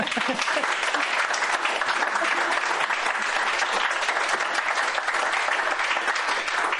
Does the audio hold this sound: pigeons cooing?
no